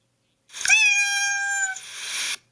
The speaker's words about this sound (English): what does it mean when you hear meow